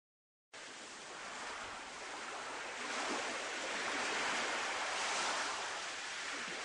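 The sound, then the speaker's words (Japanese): Steady ocean waves wash and hiss across the sea, a broad continuous rush that swells slightly louder midway and stays constant, with no voices present. “ここが海の上か。初めて顔を出したかも。全然興味なかった。波がキラキラして眩しい。”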